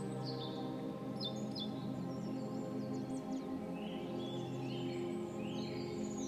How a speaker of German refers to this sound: Das laute Gezwitscher ist plötzlich verstummt.